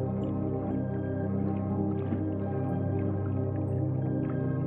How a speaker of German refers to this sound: Sanft schwappt das Wasser an den Rumpf, in einem stetigen Rhythmus, der ein ganz eigenes Lied zu spielen scheint.